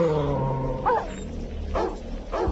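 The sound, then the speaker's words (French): Dogs snarl and growl in a video game, with harsh rising barks and gnarled growls over a low rumbling backdrop, fairly loud, with no one talking. “Et des chiens! Ouh, sale bête.”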